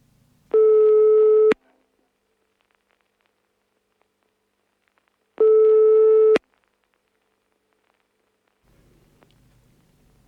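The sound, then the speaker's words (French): Two loud, steady telephone busy-signal tones, each lasting about a second and spaced several seconds apart, with near silence between them and a faint rustle at the end. “La douce sonorité du téléphone.”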